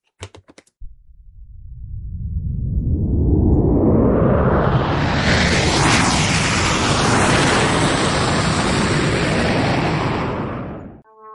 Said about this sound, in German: Hörst du das auch? Das ist aber ein lautes Flugzeug. Hm. Ich muss kurz gucken. Das ist bestimmt eine Lufthansa-Maschine, die fliegen immer so. Nein, ist ein Testflug von Finkenwerder.